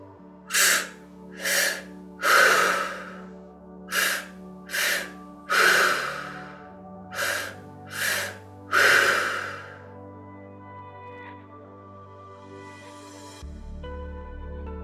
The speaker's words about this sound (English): Please start breathing as soon as you hear the music and breathe along with me. Okay, you can start breathing in through the belly, chest out. Belly, chest out.